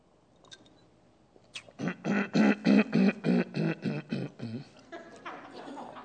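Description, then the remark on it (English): A loud fit of harsh, choking coughs from a person who swallowed a bug while speaking, about ten rapid spasms in a row that gradually taper off into ragged breathing. “I swallowed a bug.”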